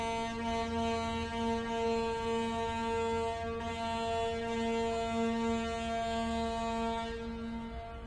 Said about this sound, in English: Shh. Did you hear that? Sounded like a foghorn. And the silhouettes of boats floated through the fog.